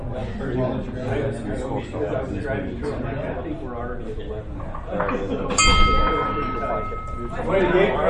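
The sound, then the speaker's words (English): A hand bell is struck once and rings out clearly with a sustained metallic tone that slowly fades, heard over a room full of murmuring voices. “Somebody gave me a bell, so I guess I ought to use it.”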